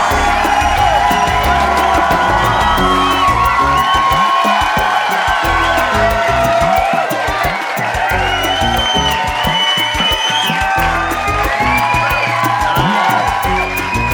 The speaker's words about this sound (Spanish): Confieso que yo no sé si yo estaría aplaudiendo tanto, porque bueno, no me gusta que llegue el final del verano.